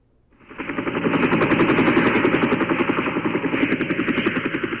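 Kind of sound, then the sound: vehicle, helicopter arriving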